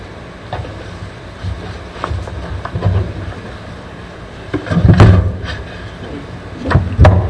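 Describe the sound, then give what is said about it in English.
A sparkling water container is dropped, landing with a loud thud and brief clatter, followed by another knock a couple of seconds later, over a steady low rumbling background. “I dropped my sparkling water.”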